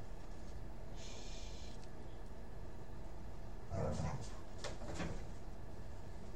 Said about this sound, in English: What the fuck? It's goddamn dogs.